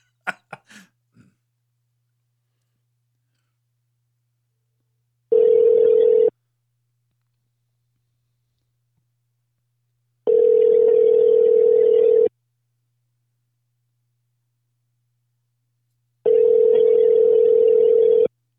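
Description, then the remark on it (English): A phone line rings while waiting for an answer: three steady electronic ringback tones, each a second or two long, separated by silent pauses, after a brief soft click at the start. “pick up the fucking phone.”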